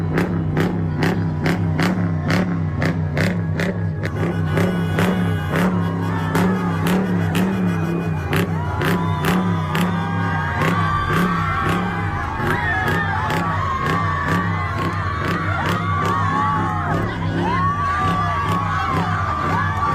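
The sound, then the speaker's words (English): A shouting crowd of protesters pounds on a police squad car in Salem, Oregon, sharp metallic thumps landing in a rapid, steady rhythm over loud yelling and jeering voices. “And not even the cops are safe, as in Salem, Oregon, they began smacking his squad car.”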